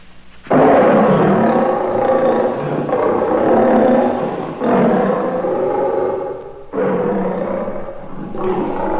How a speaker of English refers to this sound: That was a lion. Great Scott, that was the circus train and the lions are loose.